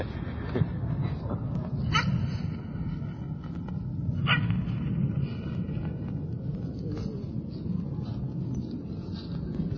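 A couple of sharp dog barks ring out against a steady, rumbling outdoor background, with faint voices murmuring underneath; the barks are irregular.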